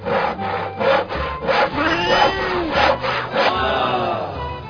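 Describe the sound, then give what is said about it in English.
A hand saw rasps back and forth in a steady rhythm, about ten loud, gritty strokes in under five seconds, with no talking, as an online radio magician performs the act of sawing a cat in half. “And now, ladies and gentlemen, watch as I saw this cat in half.”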